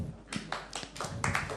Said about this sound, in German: Applaus.